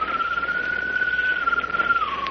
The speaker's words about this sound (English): Wait a minute. What was that? It sounds like a bird. That's what it was. A bird's call. But I don't see any bird.